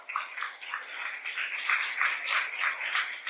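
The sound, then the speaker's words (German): A steady wash of audience applause for guest Heidi Stopper, many hands clapping at once in a dense, continuous patter that holds an even, moderate level throughout, with no voices over it. “Ein Applaus bitte für Heidi Stopper.”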